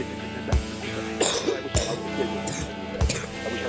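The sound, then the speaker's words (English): A series of short, sharp coughs, about four bursts spaced roughly a second apart, set against a steady humming background with no talking. “Yeah, cough.”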